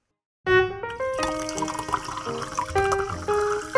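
Steady running natural spring water from Rocky Creek Spring that starts abruptly and keeps flowing with a bright, gurgling, bubbly tone. No one speaks.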